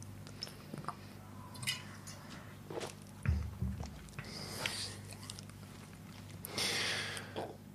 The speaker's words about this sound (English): Wait, I have to take another sip.